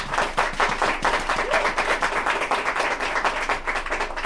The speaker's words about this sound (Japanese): はい、というわけでございましてね、こんだけ言ったからには大きい拍手が返ってきてね、皆さん素晴らしいお客さんでございますけれどもですね